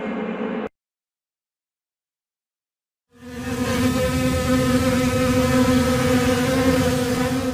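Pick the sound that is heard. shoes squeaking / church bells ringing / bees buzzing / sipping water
bees buzzing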